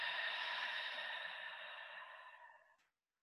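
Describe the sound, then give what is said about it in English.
A long, steady breath pushed out through the mouth during a guided breathing exercise, breathy, slowly fading over nearly three seconds before ending in silence. “And breathing out.”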